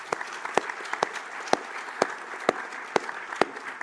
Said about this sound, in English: So please give her a huge applause because what?